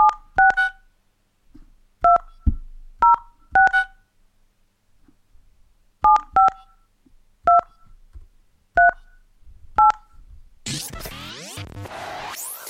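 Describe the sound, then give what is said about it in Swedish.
Touch-tone phone dialing to call a friend and check on him: about a dozen clear, bright keypad beeps in uneven clusters, followed at the end by a harsh burst of line noise and static as the call connects. “Vi ringer han och kollar.”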